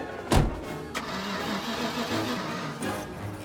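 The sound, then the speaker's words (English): A truck engine cranks over and over with a strained, rhythmic whirring and a few sharp mechanical jolts, never catching. It sounds fairly loud, with no voices. “jumps out of the Airstream and runs to his truck. It won't start.”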